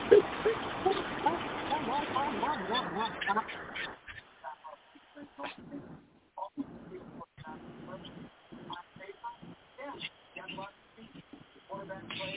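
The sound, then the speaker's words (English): A loud, dense burst of rapid duck quacking fills the first few seconds, then drops away to quieter, scattered sounds and voices with gaps of near silence. “I hate a goddamn unappreciative ass motherfucking duck.”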